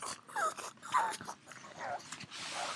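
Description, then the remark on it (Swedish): The speaker's pug snorts and grunts in the background with pig-like noises, four or so short, squeaky, wheezy bursts spaced irregularly over breathy snuffling. The sounds are fairly quiet and no one speaks. “Jag hör, det är min mops som håller på grymt där i bakgrunden om han hörs lite.”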